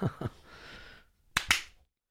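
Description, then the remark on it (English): Two quick hand claps, a short pause, then two more claps, sharp with a brief ringing tail after the first pair and no talking. “Clap on, clap ooh. Off.”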